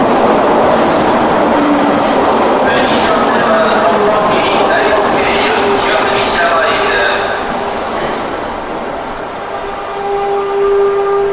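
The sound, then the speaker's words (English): A train roars past, a loud, steady rumble with screeching, whining metallic tones that holds for about eleven seconds before easing slightly and swelling again. “Wait for this train.”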